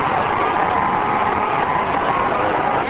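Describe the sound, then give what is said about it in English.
A crowd cheers at the close finish of the 2005 canoe marathon in a dense, continuous roar that holds steady and loud for the full three seconds, with no single voice standing out from the wash of noise. “Listen to the crowd as they come close to move.”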